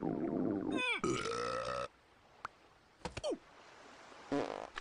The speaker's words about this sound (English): He farts, grabs it with his tongue, and releases the yellow cloud in Red's face, but gets no reaction.